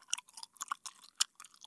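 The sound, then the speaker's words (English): Wet chewing with irregular crunchy, squishy bursts, a bite of warm mealworms being chewed in quick uneven rhythm, no talking. “I just have to finish chewing this bite of warm mealworms.”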